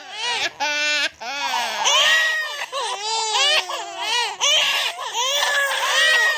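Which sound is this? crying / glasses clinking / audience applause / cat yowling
crying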